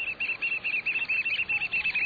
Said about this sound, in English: hearing the piping call of the black oyster catcher, a stocky black bird with bright red eyes and a stout orange-red bill, perfectly suited for jabbing limpets and mussels.